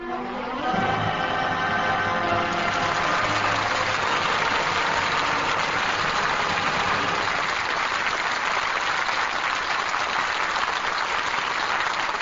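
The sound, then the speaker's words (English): An audience breaks into sustained applause as the curtain falls on All My Sons, thanking the cast: a dense, steady wash of clapping that swells quickly and holds at full strength to the end, with a fading musical chord at the very start. “Curtain falls on All My Sons, and that applause is our thanks to a stellar cast for their really fine performances.”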